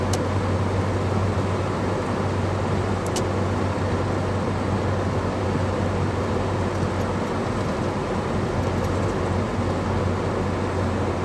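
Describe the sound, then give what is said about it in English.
A large truck comes up from behind, its deep engine hum and tire roar blending into a loud, steady road drone that fills the whole stretch without pause or voices. “There's a big truck coming up behind me.”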